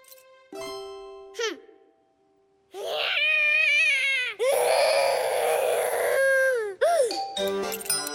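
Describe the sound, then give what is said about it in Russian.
A young girl cries loudly in long, high wailing sobs, intense, with a few brief breaks between the bursts of crying, as a bear takes back the Christmas tree toys she took down. “Она снимает с елки игрушки, а когда медведь отбирает их, громко плачет.”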